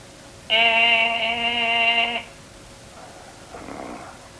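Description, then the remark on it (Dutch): A man snores: a loud, buzzy snore drones for about two seconds, then a softer, breathy intake follows after a short pause. No one speaks. “Die vrijer die snurkt weer als een brontol.”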